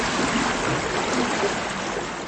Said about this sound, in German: Die Wassertemperatur beträgt fast 40 Grad Celsius. Wir geben 39,8 Grad Celsius an. Wir nennen es Spiegelbad, weil die Badegäste direkt wie an einer Quelle sitzen und das Thermalwasser dort praktisch ununterbrochen zufließt.